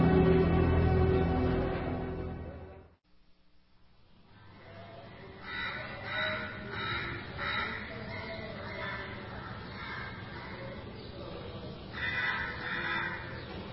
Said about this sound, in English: This country certainly has a lot of crows. Morning, crows.